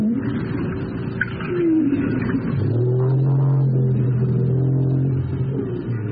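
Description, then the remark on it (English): A low, tonal call of a North Atlantic right whale, recorded off the coast of Martha's Vineyard in Massachusetts, rises and sweeps upward, then holds a steady droning moan over a constant rumbling underwater background, with a few faint higher whistles; no voices. “That's a North Atlantic right whale recorded off the coast of Martha's Vineyard in Massachusetts.”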